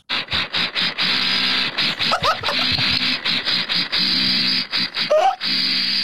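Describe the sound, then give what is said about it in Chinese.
A loud, buzzing electric drill from construction work upstairs whirs in a series of short bursts separated by brief pauses, with a rattling, pulsing motor tone and a couple of faint squeaks mixed in. “楼上工地施工， 这就是我的猫听到的感觉。是电钻，是电钻。”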